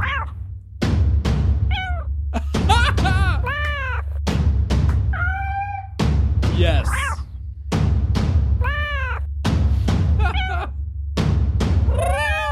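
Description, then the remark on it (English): A cat meows and yowls loudly, about eight drawn-out, wavering cries in a steady series, with sharp clicks between them and a brief spoken word at the start. “You want to wake up to the battle cat?”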